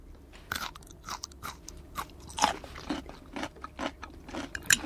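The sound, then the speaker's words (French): Crunching and chewing of garlic fermented in soy sauce, salt and water with no sugar, a series of irregular crisp bites and wet chews over about five seconds, with no talking. “On croque.”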